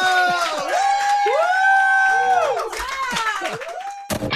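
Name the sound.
audience applause and cheering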